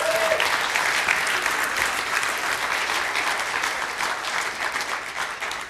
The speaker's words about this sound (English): Well, thank you, choir, and let's give them one more good round of applause.